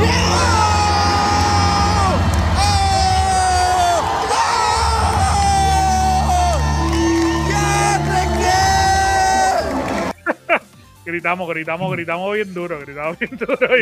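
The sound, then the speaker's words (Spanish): A large audience screams and cheers loudly in a sustained, roaring burst for about ten seconds at the announcement of a free video game, then it cuts off and a single voice starts talking. “Gritamos bien duro. Okay, gritamos por God of War, pero gritamos más porque fue gratis.”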